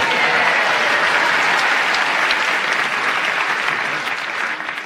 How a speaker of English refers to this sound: your request for applause increased your reaction there